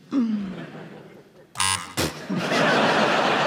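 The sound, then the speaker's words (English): A short, harsh electronic quiz buzzer, pressed by a contestant, sounds once, a low rasping tone lasting under half a second, after a voice, then followed by loud laughter and noisy crowd reaction. “I buzzed before I realised I probably can't do a bat noise.”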